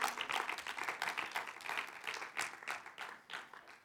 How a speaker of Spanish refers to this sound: Amén. Denle un fuerte aplauso, Señor, claro que sí.